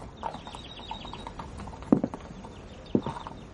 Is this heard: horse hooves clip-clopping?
yes